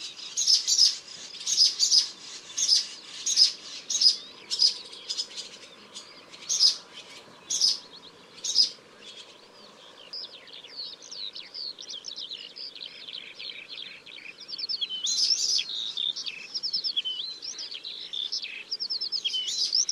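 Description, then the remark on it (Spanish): A magpie gives a series of about ten harsh, evenly spaced calls, then gives way to a swallow feeding its chicks: steady, high-pitched twittering and chirping that continues to the end. “La urraca gruñe mientras la golondrina ceba a sus pollos.”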